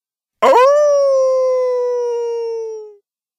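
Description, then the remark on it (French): A single long wolf howl, loud, starting with a brief rough onset and then holding a steady, slowly falling tone for about two and a half seconds before fading out. “On m'appelle méchant loup. On ne m'aime pas du tout. Et je hurle comme un fou.”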